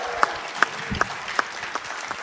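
An audience applauds a performer being introduced, a dense wash of clapping with a few sharper, louder claps popping out at fairly regular intervals, at a moderate level with no voices.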